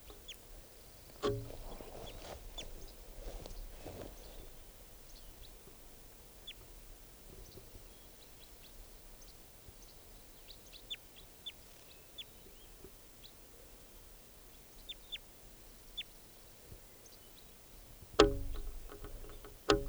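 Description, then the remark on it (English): A wild bird calls in short, high chirps scattered through a quiet stretch, mostly faint, with a few louder bursts near the start and end, recorded at 7:25 a.m. No one speaks. “Recording that wild bird.”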